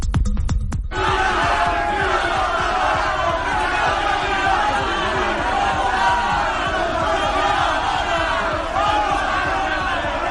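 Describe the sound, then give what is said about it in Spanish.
A dense crowd of dockworkers in Plaza San Jaime, Barcelona, shouts and chants angrily in unison at Partido Popular spokeswoman Cayetana Álvarez de Toledo, yelling "independencia" and "fuera", loud and sustained, with rhythmic hand-claps or thumps at the start and overlapping voices throughout. “Han increpado a Cayetana, la han amenazado, le han gritado fuera, pero la portavoz del Partido Popular en el Congreso de los Diputados no se ha amilanado, se ha quedado allí, se ha plantado cara, y al tiempo que ellos le gritaban independencia”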